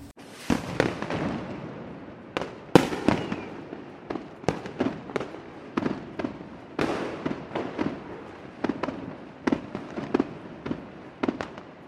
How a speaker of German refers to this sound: Also machten die Chinesen jedes Jahr ein riesiges Feuerwerk mit roten Raketen.